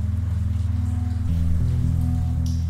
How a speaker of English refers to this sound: Outside, a soft rain was falling.